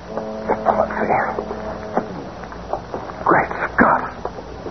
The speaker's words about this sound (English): Boat coming, Mr. Briggs. I hear it. Maybe the killers are returning. A police boat.